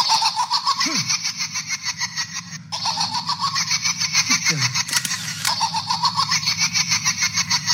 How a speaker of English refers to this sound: So as he's walking around and flashing the damn camera. he hears like this giggling doll.